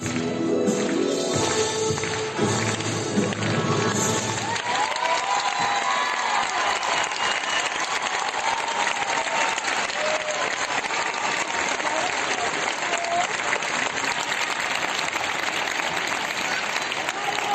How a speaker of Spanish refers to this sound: Esta es la enorme ovación que se llevó Ángela